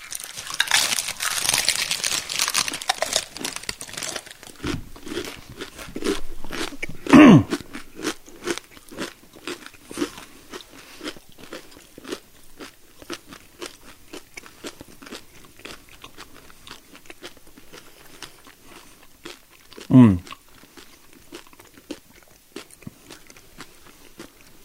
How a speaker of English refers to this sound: Nice texture. Doesn't really have much of a flavor. I'm still chewing.